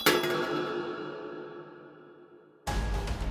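A single hollow metallic clink of a spun penny shooting into a slot in a wall, its bright ringing tone fading slowly for a couple of seconds before a sudden, loud, full-bodied sound cuts in.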